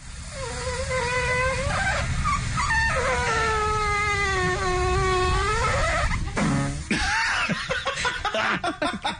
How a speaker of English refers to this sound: In case you missed it earlier today, this is not a human being passing gas. This is an actual waffle machine farting. Hit it.